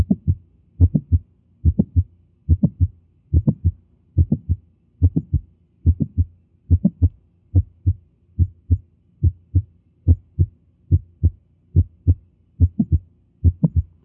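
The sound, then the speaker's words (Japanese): Steady heartbeat heard through a stethoscope at the eighth auscultation point, low thudding beats in regular clusters with an extra sharp mid-systolic click, repeating about every 0.8 seconds with no talking. “8番目の聴診のポイントは、収縮中期のクリック音でありまして、新鮮部に聴診器を置いて聴診していただきます。”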